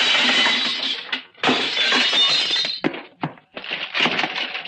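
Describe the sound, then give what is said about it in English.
Loud, sustained crashing and shattering of glass as an X-ray machine is smashed, with repeated smashing blows and brief pauses between bursts of breaking shards and clattering debris. “Watch out for the flying glass, sailor.”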